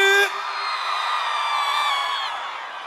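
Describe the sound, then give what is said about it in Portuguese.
A loud, sustained shout rings out for nearly three seconds, a strained, drawn-out yell that stays strong before tapering slightly at the end, with a hint of crowd noise behind it. “Dá um gritão aí”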